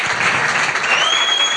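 Steady, dense applause from an audience fills the whole moment, a continuous loud patter of many hands clapping with no voices on top.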